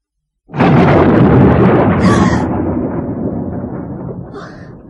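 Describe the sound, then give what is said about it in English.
A loud thunder clap bursts in suddenly, then rolls and rumbles on, slowly fading over several seconds with a broad, crackling storm roar. “Oh, thunderstorm. If it doesn't stop, I shan't be able to go out tomorrow.”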